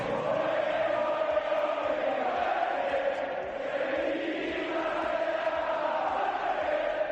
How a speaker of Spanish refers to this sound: Y es que después de tanto tiempo de estadios vacíos, de goles sin gritos, de penaltis sin discusión, volver a escuchar ese rumor de un estadio, pues es música celestial, ¿no?, en ese camino a intentar recuperar una normalidad post-COVID.